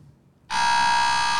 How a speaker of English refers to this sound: Anybody else want to buzz in?